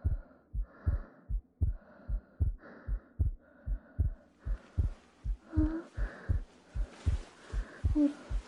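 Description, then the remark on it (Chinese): A rapid heartbeat heard through a doctor's stethoscope during a routine checkup: steady, muffled low thumps at about two per second, continuous, with faint rustling scrapes creeping in toward the end. “我的心跳很快吗？”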